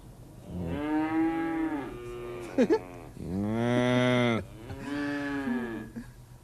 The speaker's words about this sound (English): I think that's a cow. Is it the McFeely's cow? That's the McFeely's cow. That's Harriet.